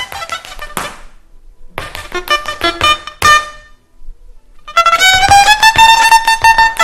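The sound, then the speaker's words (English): Celtic fiddle playing in short bursts of bright, harmonically rich notes separated by brief pauses, then a louder, sustained run of bowed tones that rises slightly in pitch. No voices. “And then more familiar Celtic fiddle tones.”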